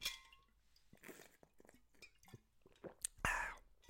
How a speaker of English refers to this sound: Hold on real quick. Let me take a sip of my drink.